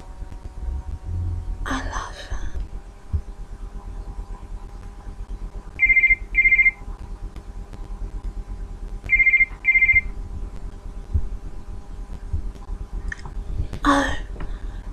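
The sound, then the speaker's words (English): A phone rings twice, each ring a quick double electronic trill, sounding clear over a low steady background hum, with a few soft rustling noises before and after. “You still have your phone, right? No, I'll get it.”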